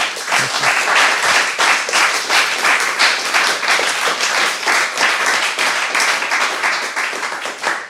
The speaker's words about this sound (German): Nochmal sehr warmen Applaus, dass du da gewesen bist. Vielen Dank.